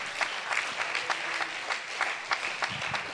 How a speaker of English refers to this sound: Let's clap our hands unto the Lord one time.